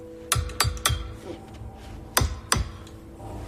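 A man bangs on the frosted glass of a skylight, then taps it with his knife handle: sharp percussive knocks ring out, three quick bangs, a short pause, then two more spaced hits, each with a brief ringing decay over a low steady hum.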